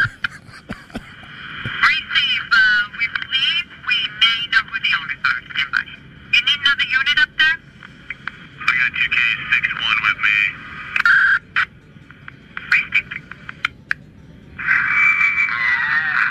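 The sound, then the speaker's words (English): Tinny, band-limited police radio chatter with bursts of static, an officer reporting a large cow in the road northbound and stopping traffic on the parkway to corral it, broken by drawn-out, wavering mooing sounds over the transmission, most noticeable near the end as a voice seems to imitate a cow. “Who's mooing?”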